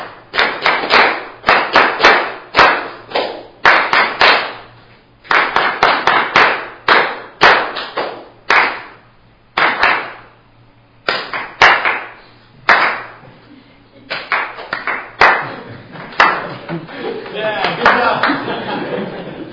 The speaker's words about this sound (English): I'll give you a measure again, and we'll do 8, but we're just clapping it this time all together, and we'll do the whole thing.